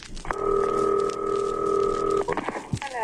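signal or alarm, telephone being dialed

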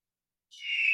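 bird, eagle call sound effect

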